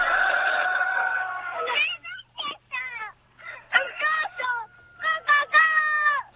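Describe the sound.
A human voice imitates a rooster's crow: one long, strained held note, then a run of short, choppy crowing syllables, loud.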